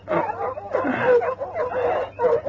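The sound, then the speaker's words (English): Several dogs bark and yip excitedly at night in rapid, overlapping bursts, loud, with no pause in the commotion. “Dogs must have wakened me.”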